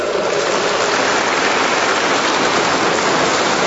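A crowd applauds steadily, a dense, unbroken wash of clapping that stays loud and even from start to finish, with no voices standing out; the applause is for guardians, parents, educators and religious sisters.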